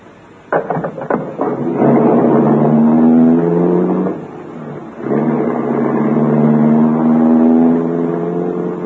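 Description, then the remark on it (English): A large limousine engine turns over with a few sharp clicks, then settles into a steady, low harmonic drone that eases briefly midway before picking up again as the car drives away from the city center. No voices. “He turned the car away from the main center of the city, and we drove for a while in complete silence.”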